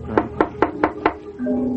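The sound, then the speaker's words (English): Five firm, evenly spaced knocks on the wooden door of a dark, ramshackle house at night, fairly loud, followed by a steady low droning tone as the knocking stops. “Well, I'll try the door.”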